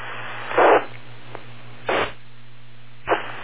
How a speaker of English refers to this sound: No, it's definitely not that. It's much lower in frequency, but it's definitely a buzzing. It almost sounds like a control channel.